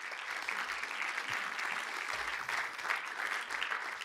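Steady audience applause for a young woman called to the front, a dense, even crackle of many hands clapping that holds at a fairly constant level for the whole stretch, with no voices standing out.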